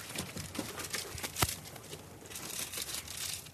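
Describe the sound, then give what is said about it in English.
Paper crinkles and crackles continuously as a piece of paper is crumpled into a ball and tossed into an ashtray, broken by one sharp tap partway through, with no voices. “Tony, crumple the piece of paper up a little bit. That's fine, yeah. And toss it in the ashtray there.”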